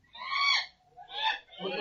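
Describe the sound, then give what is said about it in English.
An albatross cries out in three harsh, honking calls, the first drawn out and the next two shorter, fairly loud, with nothing else around them. “I killed the albatross.”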